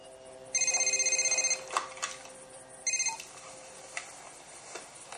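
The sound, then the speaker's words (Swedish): A telephone rings as Ragnar calls Wall Enberg's mobile phone, in two bursts of rapid, trilling bell pulses, the first about a second long and the second shorter, with quiet background sounds and faint clicks in between. “Ragnar ringer till Wall Enberg på mobilen.”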